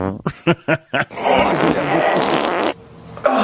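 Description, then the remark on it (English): A chair is moved, giving a drawn-out, buzzy squeak that sounds much like a fart, lasting over a second and fairly loud, right after a few short bursts of chuckling. “But then people often hear a fart when, like, if I move my chair.”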